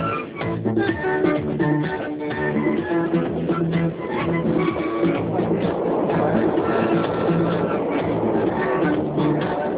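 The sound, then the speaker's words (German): A train in Kenya, travelling toward the centre of the country in the dry season, rolls steadily along its rails, a continuous rumble and clatter that fills the whole stretch without pause, fairly loud and muffled in tone. “In afrikanischen Zügen gibt es noch drei Klassen.”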